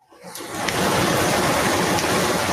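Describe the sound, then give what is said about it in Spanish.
Heavy rain pours in Mexico City in a dense, steady hiss that swells up quickly and stays loud and constant, heard through a window just opened, with no talking. “Y es el sonido de la lluvia. Está fuerte.”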